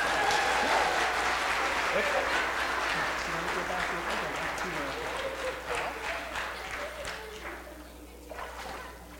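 Steady applause from a sizable audience after a baptism, loud at first and gradually thinning toward the end as scattered claps fade out.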